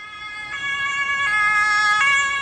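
emergency vehicle siren

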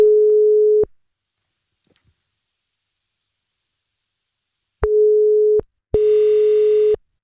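telephone ringing tone

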